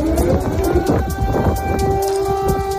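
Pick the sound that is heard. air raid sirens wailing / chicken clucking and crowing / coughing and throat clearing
air raid sirens wailing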